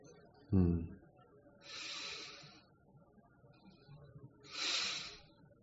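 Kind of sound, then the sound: human body sound, deep heavy breathing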